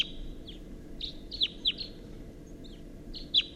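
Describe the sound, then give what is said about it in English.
A pair of wild birds calling from an oak tree at 6:14 a.m.: short, high, sharp chirps in irregular bursts, a few louder than the rest, over a steady low rumbling background with no talking. “and there's at least a pair, and they're calling from the oak tree.”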